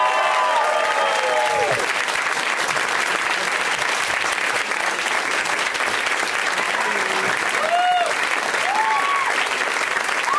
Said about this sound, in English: Please welcome them. Summon them with your applause and love.